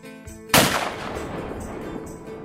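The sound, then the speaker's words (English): A single loud blast from an old Beretta 12-gauge shotgun cracks out sharply during a turkey hunt, then a rumbling echo trails off and fades over the next two seconds, with no voices present. “15 minutes later, I heard the sound of his old Beretta 12-gauge. Boom!”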